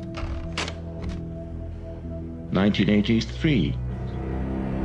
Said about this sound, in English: A sheet of paper is rolled into a typewriter.